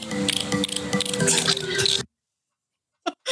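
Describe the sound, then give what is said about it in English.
A voice imitates dolphin chatter with about two seconds of continuous, high-pitched squeaking and chirping. A brief silence follows, then two short squeaky bursts. “Oh yeah, that was in her native dolphin.”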